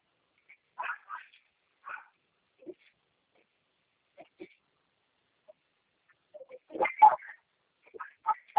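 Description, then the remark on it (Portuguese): A dog barks in short, scattered bursts, some single and some paired, with quiet gaps between, then a denser, louder flurry of barking toward the end. “Eu acho que está um cachorro lá chato latindo aqui, mas pode falar comigo.”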